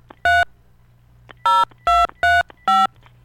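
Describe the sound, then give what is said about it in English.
Five loud touch-tone dialing beeps from a phone keypad, dialing a local number to place a call, short and separate with uneven gaps, heard alone over a faint low hum with no one speaking. “All right, phone's ringing.”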